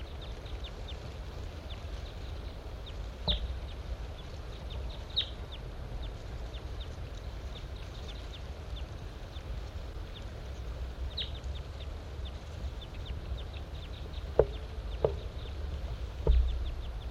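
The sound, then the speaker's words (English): A large-race male wild bird, on the other side of a net site, sings in repeated short, high chirps scattered across a steady low rumble, with a few sharper, louder clicks toward the end and no talking. “Large race male in song.”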